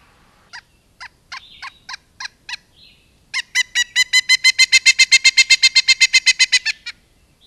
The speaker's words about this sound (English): Okay, here's the flicker, and then the pileated.